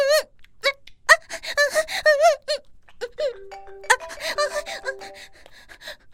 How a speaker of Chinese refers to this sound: 电话，我老公的电话。